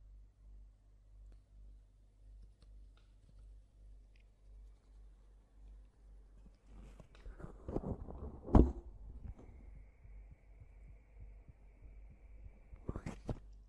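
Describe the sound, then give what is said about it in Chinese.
A person's muffled heartbeat thumps low and steady at a regular pace, heard with the chest leaned against the listener, then gives way to rustling, a sharp knock and a faint steady whine. “你要是真的不信的话，来， 感受一下我的心跳。”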